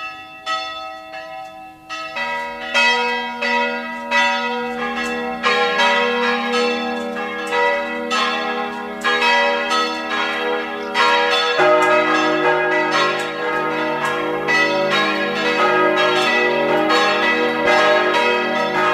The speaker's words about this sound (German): Es ist 12 Uhr. Sie hören die Glocken der katholischen Stadtpfarrkirche von Neusiedl am See im Burgenland.